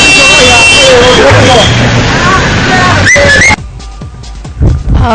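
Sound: car horn honking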